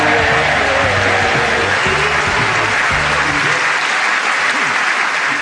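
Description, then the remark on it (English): Loud, dense applause from a crowd, a steady wash of many hands clapping at once, with low voices and a brief musical tone mixed in underneath during the first few seconds. “Oh, can I say I think you ruined that by clapping?”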